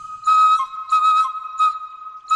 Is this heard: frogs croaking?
no